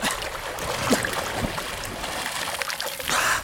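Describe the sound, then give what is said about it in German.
Continuous water splashing and sloshing in a river as a young man plunges in and swims, with a few sharper splashes as he moves vigorously through the water; a brighter surge of spray near the end. “Ohne zu zögern stürzte der Jüngling sich ins Wasser und schwamm zu Andina.”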